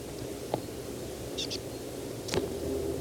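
A bird foraging in pine, about 3 meters away, gives two soft, quick high-pitched calls in the middle, with a couple of brief clicks before and after, all over a steady low background hiss.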